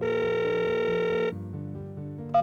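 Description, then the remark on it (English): A telephone rings with a steady, buzzing electronic tone that holds for over a second, then shifts to lower, softer tones before a brief click near the end. No one speaks. “pick the phone up.”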